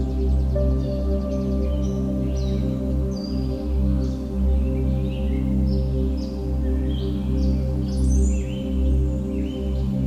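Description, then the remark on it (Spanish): Forest birds chirp and sing in scattered, overlapping bursts over a steady low drone, with several birds calling throughout. “Escuchas el sonido de la fauna que vive pacíficamente en este bosque.”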